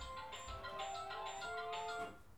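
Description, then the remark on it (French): A telephone rings with an electronic tone, steady pitched notes under a quick repeating pulse, heard fairly faintly for a couple of seconds during an interview, with no one talking. “Ah, je crois que vous avez le téléphone.”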